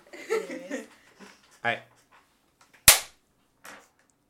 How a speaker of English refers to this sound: All right, clap again. The way you just like. Well, no. That clap. You hear.